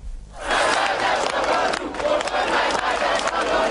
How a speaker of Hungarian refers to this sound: A szegedi Széchenyi téren csak nem 1500-an követelték Gyurcsány Ferenc lemondását.